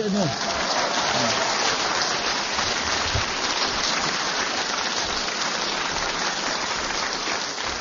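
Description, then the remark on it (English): After a brief whistle at the very start, an audience applauds in a dense, steady wash of clapping that holds at an even, fairly loud level for several seconds without fading. “I hope you are applauding the whistle and not what he said.”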